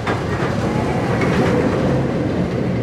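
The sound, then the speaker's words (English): Roller coaster carts at a Coney Island amusement park tick up, then plummet and swerve along winding tracks: a loud, steady rumble with a fast rattling of wheels running continuously throughout and no voices. “Roller coaster carts tick up, up, up, and then plummet and swerve along winding tracks.”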